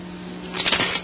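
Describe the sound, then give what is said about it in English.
A brief rustle of paper sheets being shuffled and turned, a soft crinkling burst over a faint steady hum, with no one talking. “Wrong side of the paper.”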